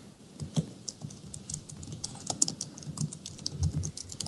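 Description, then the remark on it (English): Rapid, uneven clatter of keys on a computer keyboard, a steady stream of sharp clicks with a few harder strikes, moderately quiet, with no voices. “Chad banging the fucking keys while we're talking”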